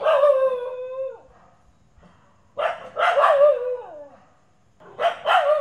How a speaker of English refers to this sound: At night, when the big dogs fight, Chutney joins the chorus, but from the safety of our garden, away from big bad grandma.